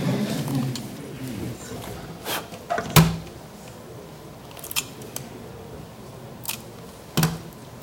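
Adhesive tape is pressed on and peeled off to lift graphite residue, giving several short, crackly rips spaced a second or two apart, with quiet rustling and handling noises between them.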